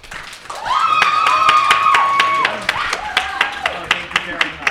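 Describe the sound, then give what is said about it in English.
An audience votes by applause for a panelist, clapping steadily with loud whoops and cheering voices rising over the clapping; the cheers fade after a few seconds, leaving sharper scattered claps. “So we're going to do it by applause.”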